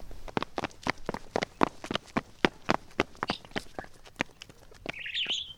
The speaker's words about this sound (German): Komm her, wir haben deinen Vogel gefunden. Er sitzt vorm Golden Kiosk.